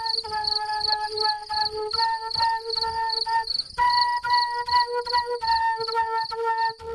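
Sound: cricket chirping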